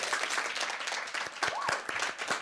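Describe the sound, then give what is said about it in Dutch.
A crowd claps steadily for a couple of seconds to welcome the second expert of the day, dense overlapping hand claps forming a warm wash of applause, moderately loud. “Tweede expert van vandaag, een groot applaus.”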